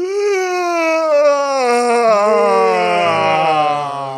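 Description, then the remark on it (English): A long, drawn-out vocal yawn lasting about four seconds, its strained tone sliding steadily downward in pitch and staying fairly loud throughout, with no talking over it. “Don't yawn, man. It's contagious.”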